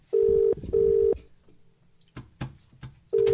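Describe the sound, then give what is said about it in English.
Telephone keypad tones: three steady, mid-pitched electronic beeps, each about half a second long, as phone buttons that are not working are pressed, with a few sharp button clicks in the gap between them. No one speaks. “None of these buttons work.”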